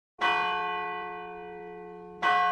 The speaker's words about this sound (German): Die tiefe Glocke läutet zur vollen Stunde. Läutet sie dreimal, heißt das, es ist um drei.